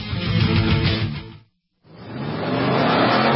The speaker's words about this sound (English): The 57th running of America's legendary sports car endurance classic runs Saturday, March 21st at Sebring International Raceway. The Mobile One 12 Hours of Sebring, presented by Fresh from Florida, features the fastest race cars in the world.